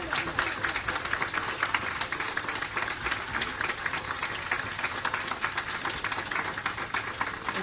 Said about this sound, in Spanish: Para con toda su gente de Saldán, el aplauso para que lo sienta desde el cielo.